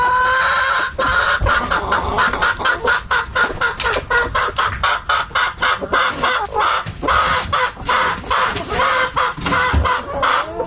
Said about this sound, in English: of course, that may be a little bit unkind, putting the chicken sound effect in there.